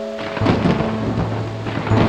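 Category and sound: nature, thunder rumbling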